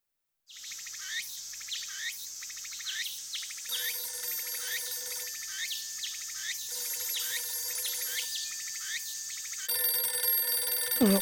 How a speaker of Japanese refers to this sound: 誰だい、こんな朝早くに。 お父様、きっとその電話は私にです。